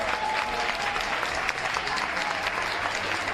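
An audience applauds steadily, a dense wash of many hands clapping at an even loudness throughout, with faint crowd murmur underneath.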